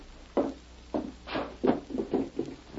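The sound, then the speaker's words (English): A wooden drawer is handled, giving a series of soft, irregular thuds and scrapes, about seven dull bumps over a few seconds with no voices. “The drawer.”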